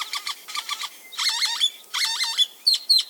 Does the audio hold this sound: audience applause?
no